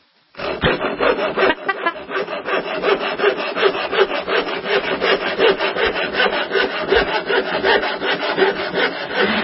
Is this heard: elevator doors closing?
no